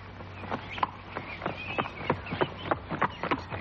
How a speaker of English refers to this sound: Very soon, we were driving through a gate which said, "Danger, horses exercising."